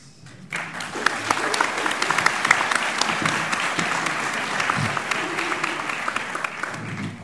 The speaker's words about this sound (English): By the way, audience, you may feel free to applaud. You can give polite applause. You can give enthusiastic applause. That is your right.